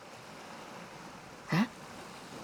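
Soft, steady wash of sea waves rolling in at the shore, with one brief louder surge about midway through and no voices.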